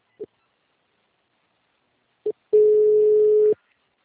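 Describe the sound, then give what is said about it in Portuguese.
A telephone busy signal: two short electronic beeps spaced apart, then a steady mid-pitched tone holding for about a second before cutting off. No one speaks. “Do primeiro que o telefone era inválido, depois deu que todas as vezes estavam ocupadas, aí eu liguei de celular.”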